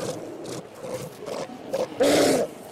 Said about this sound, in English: Hundreds of sea lions and seals are blocking the way to the sea.